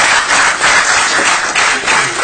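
A crowd at a public comment session applauds after a speaker's turn, with dense, steady clapping that stays loud and even for a couple of seconds, a continuous crackle of many hands with no voices standing out.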